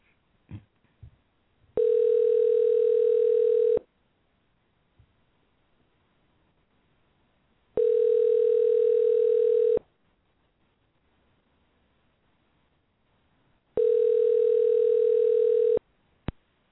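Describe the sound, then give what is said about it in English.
A phone line's ringback tone sounds three times during a call placed on live radio, each steady electronic burr lasting about two seconds, with roughly four-second silent gaps between rings, clear and moderately loud. “Oh, it's ringing. Hope you can hear that.”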